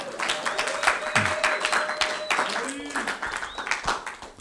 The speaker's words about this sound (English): We've got a new AV team. Can everyone give them a round of applause?